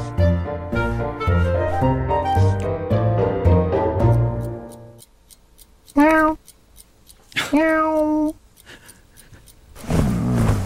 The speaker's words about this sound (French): Donc là, en fait, il faut imaginer un gros chat blanc en train d'essayer de réveiller son maître par tous les moyens. Il piétine la couverture, il renverse le réveil, il lui met même une ou deux petites claques.